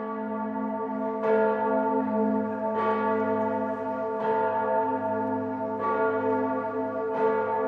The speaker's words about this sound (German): Da hat man einfach gemerkt, dass die Münchner Bürgerschaft eben die größte Glocke haben wollte, die es hier in Süddeutschland gibt. Also es war einfach eine Sache des Ansehens, ne? Also Glocken hat immer ein bisschen mit Prestige zu tun.